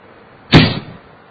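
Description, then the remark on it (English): A single arrow is shot in battle with a sudden, loud swoosh that cuts in sharply and fades out within half a second against a quiet background; no one speaks. Ram shoots one of his choicest arrows at Ravana. “Ram took his choicest arrows”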